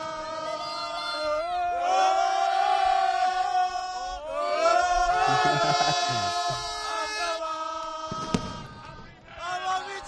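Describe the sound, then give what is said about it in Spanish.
A street crowd in Girona chants together in celebration, many voices rising and falling in sung, rhythmic bursts with shouts and whoops, loud and sustained across the whole stretch. “Y bueno, acá vas a ver un poquito de gente que te va a empezar a cantar.”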